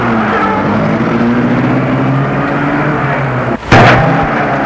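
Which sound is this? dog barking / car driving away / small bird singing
car driving away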